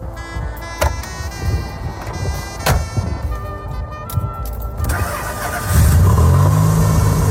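The Maserati engine of a 1973 Citroën SM idles with a steady low rumble, punctuated by short sharp blips, then revs up loudly near the end into a sustained, strained roar.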